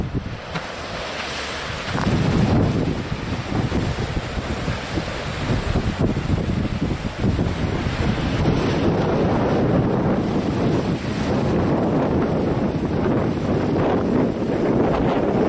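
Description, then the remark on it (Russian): Surf rolls steadily onto an ocean shore while gusty wind buffets the microphone, a broad continuous roar that swells from about two seconds in and stays loud throughout, with no voices. “На то и берег океана, чтобы красота.”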